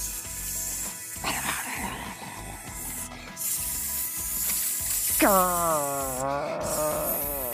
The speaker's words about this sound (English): Snakes! Oh my goodness.